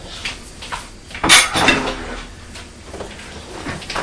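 Dishes and cutlery clatter as a table is cleared, with a loud clustered clink of crockery near the middle and lighter scraping and knocks before and after. No one speaks.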